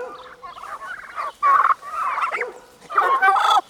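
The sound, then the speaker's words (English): Several turkeys on a farm gobble in loud, warbling bursts, with two strong calls standing out over a steady chorus of chattering birds. “And they make the funniest sounds.”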